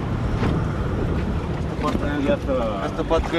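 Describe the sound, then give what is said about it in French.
A small inflatable patrol boat pushes through rough, choppy sea off Biarritz, just past the Biarritz lighthouse and facing the Grande Plage, its engine droning steadily under constant wind buffeting and splashing, with a few indistinct voices faintly audible near the end. “c'est un petit peu secoué. On vient de passer le phare de Biarritz et on est face à la grande plage”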